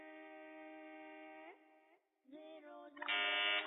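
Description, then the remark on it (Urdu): A quiz show contestant presses the buzzer during a picture round: a loud, steady electronic buzzer drones for about a second and a half, breaks off briefly, then sounds again in shorter bursts that swell louder at the end, with no talking. “جی جناب, buzzer press کی ہے”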